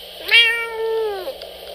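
A single drawn-out cat meow, clear, rising at the start, holding steady for about a second, then dropping away into quiet.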